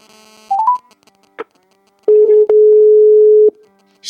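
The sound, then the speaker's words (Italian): A telephone ringback tone on an outgoing call: one long, steady low buzz-tone, loud, preceded by a quick rising three-note electronic chirp and a short click. “Squilla.”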